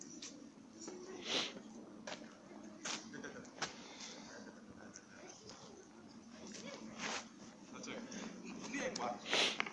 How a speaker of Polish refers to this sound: To dzieci biegną.